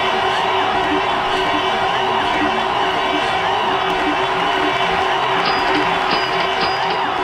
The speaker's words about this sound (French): Les menaces d'une grève générale illimitée, et ça sous les acclamations d'une dizaine de milliers d'étudiants.